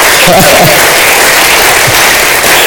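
An audience cheers and applauds loudly, a dense wash of clapping with scattered shouts and whoops filling the room throughout.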